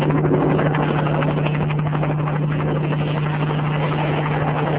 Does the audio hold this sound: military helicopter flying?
yes